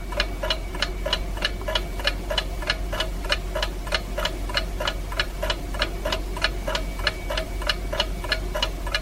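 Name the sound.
ticking clock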